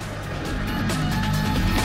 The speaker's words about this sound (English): Now, Ray's zipping along the highway in a super convertible. He's completely unaware that Alex is keeping up with him on a motorized bodyboard.